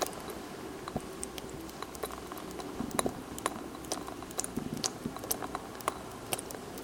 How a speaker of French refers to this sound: C'est un robinet qui coule. Pour économiser l'eau, pensez à bien fermer vos robinets. Sinon, ça gaspille des litres et des litres.